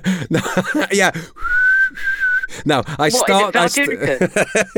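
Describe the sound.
A short, steady whistled note lasting about a second, clear and close, with people talking just before and after it.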